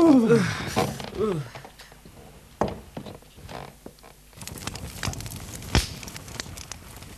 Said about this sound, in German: Ich zünde den Kamin an. Ja. Es sind Holz und Papier da.